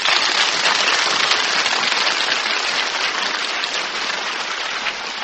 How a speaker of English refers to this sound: Ladies and gentlemen, thank you. Thank you very much for your applause.